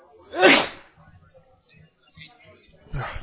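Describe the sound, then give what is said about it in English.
A single loud, abrupt sneeze bursts out near the start, followed by faint muffled voices and another sharp noisy burst at the end. “God bless you.”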